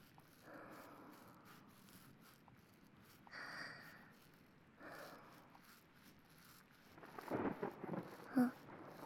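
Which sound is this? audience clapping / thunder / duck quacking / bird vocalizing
thunder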